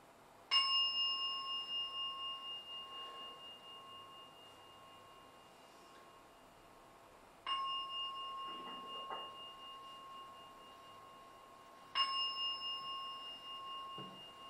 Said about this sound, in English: I'm now going to ring the gong three times. Ringing the gong is a symbol of drawing you out from meditation using the sense of sound.